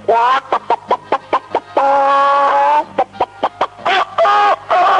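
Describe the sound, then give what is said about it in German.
Chickens on a farm cluck in the morning in a quick, loud run of short, choppy calls, broken by a few longer drawn-out squawks, with no talking. “Ja, einmal habe ich eine Nacht auf einem Bauernhof gezeltet und es war sehr, sehr schön, weil dort auch in der Früh die Hühner gackern.”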